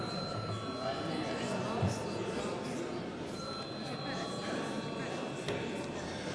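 signal or alarm, parliament chamber bell

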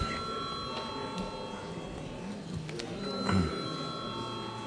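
signal or alarm, parliament session bell ringing

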